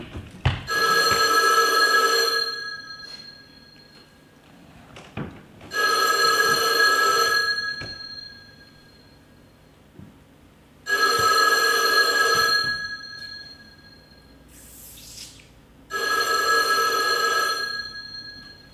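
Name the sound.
telephone bell ringing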